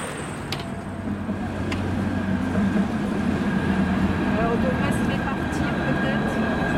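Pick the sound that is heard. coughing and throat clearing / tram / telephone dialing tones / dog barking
tram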